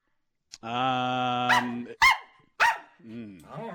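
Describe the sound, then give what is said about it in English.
A dog lets out a long, steady whine or howl, then three sharp, loud barks in quick succession, followed by softer whimpering sounds at the end. “dogs were trained back then.”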